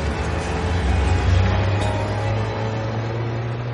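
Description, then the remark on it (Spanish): A bus engine rumbles with a deep, steady drone and broad road noise as the bus stops for a few seconds, swelling slightly before holding even as it pulls off. No voices. “El autobús para ante ellos. Tras unos segundos se marcha.”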